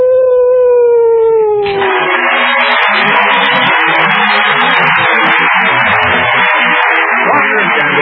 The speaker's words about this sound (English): Oh, there's someone at the door. Why, it's a stray dog. That's my public. Here, doggy, come in.